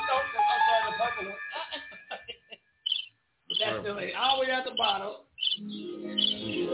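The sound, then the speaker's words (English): A squeaky, chirping sound effect like a bird plays from a soundboard button for a couple of seconds. Brief bursts follow, then people talk loudly. “That sounds like a bird squeaking.”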